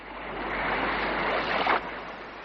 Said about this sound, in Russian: Вот пошел он к синему морю, видит, море слегка разыгралось.